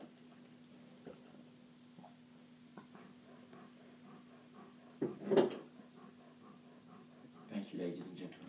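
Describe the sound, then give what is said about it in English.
A dog pants softly with quick breathy huffs over a steady low hum while beer from a bottle is poured, and a louder clattering, splashy burst breaks in midway and another rustle follows near the end. “If that beer, if the beer pouring from my side sounds a bit like a dog panting as well”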